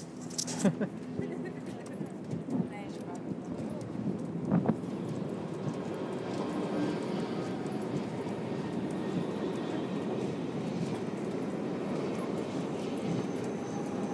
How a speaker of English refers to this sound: The trains are, I think, within touching distance.